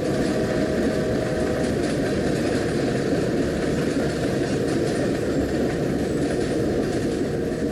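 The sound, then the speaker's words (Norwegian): A train rolls steadily along the rails with a constant low rumble and a faint clickety-clack, with no voices. “Den genuine reiseopplevelsen vi kan få når vi sitter på et tog sammen med folk i deres egen lokale hverdag, kan være det vi kommer til å sette aller mest pris på.”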